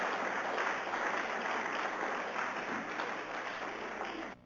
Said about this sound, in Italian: Ancora l'ultimo applauso, grazie.